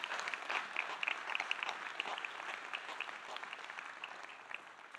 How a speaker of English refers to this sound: Can we give them applause? That's a good thing, right? We're going to celebrate that.